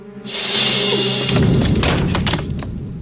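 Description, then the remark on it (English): A man's chair topples and crashes to the floor with a loud thud as he is grabbed from behind, and his glasses fall; a burst of clattering and rattling trails off over a couple of seconds, beneath a steady low hum. “His chair crashes to the ground, and his glasses fall down.”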